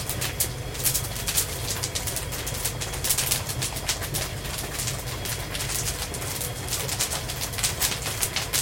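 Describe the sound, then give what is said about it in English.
Dense, rapid popping and crackling of caramel cooking with oil in a giant steel drum, bits of oil and caramel spraying out, sharp bright snaps over a steady low rumble, continuing at an even loudness with no talking. “Oh, I hear that popping.”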